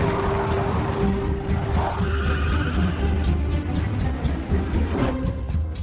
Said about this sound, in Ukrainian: Викрадачка мчить на авто до природничого музею. Всередині Паддінгтон, який нічого не підозрює. Туди ж вирушають і Брауни, та місіс Бьорд на своїй машині.